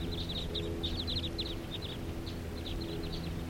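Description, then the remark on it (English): A big flock of birds calls in bursts of quick, high-pitched chirps that overlap and scatter across the whole stretch, over a steady low rumbling hum. “There's another big flock around here.”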